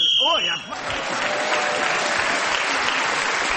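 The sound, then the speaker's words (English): A brief, shrill whistle blast sounds for about half a second, ending a round of a game as a player is speaking, then loud, sustained applause breaks out and continues steadily to the end. “Kit Heskett Harvey speaking as the whistle went, then gained that extra point.”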